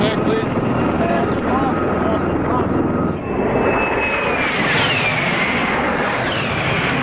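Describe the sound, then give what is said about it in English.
A loud tiltrotor military aircraft with gigantic helicopter-like rotor blades roars past, its heavy rotor and engine drone steady throughout, with high whining tones that bend downward in pitch toward the end. “It's kind of like a helicopter plane. It's like these gigantic helicopter blades.”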